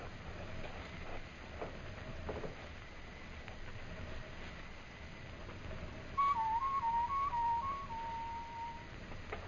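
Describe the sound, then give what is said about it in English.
A person whistles a short, wavering birdlike call in a few quick stepped notes, imitating a night bird, heard fairly clearly over a steady low rumble of background noise. “And when you get on the far side, whistle like a night bird.”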